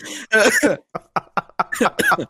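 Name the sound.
man coughing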